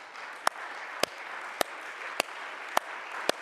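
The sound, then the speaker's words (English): A standing audience claps hands for salvation in unison, six sharp, crisp claps in a steady, even rhythm about half a second apart, over a low constant hiss with no voices. “Let's stand and clap our hands for salvation, shall we?”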